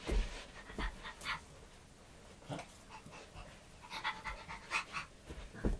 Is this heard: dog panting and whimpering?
yes